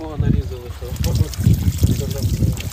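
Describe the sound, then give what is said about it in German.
Water trickles and splashes steadily at a central village water point where water is collected to water a garden, a continuous liquid patter, while people talk over it in low, indistinct voices. “Deswegen gibt es eben diese zentrale Wasserstelle, wo ich … getroffen habe, wo er dann Wasser abgeholt hat”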